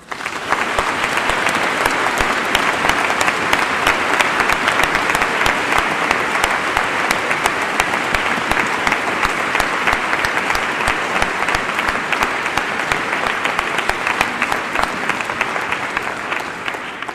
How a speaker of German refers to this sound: Und wenn es Ihnen so war, liebe Schwestern und Brüder, dann können wir jetzt dem lieben Gott und auch unseren Mitarbeitern, allen, die mitgeholfen haben, einen herzlichen Applaus spenden.